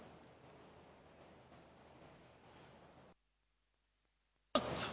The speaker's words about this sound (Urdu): Carpet کو ٹوٹی کے نیچے رکھا گیا ہے, پانی سے دھویا گیا, اب پانی ٹپکتا گیا یہاں تک کہ ٹپکنا موقوف ہو گیا.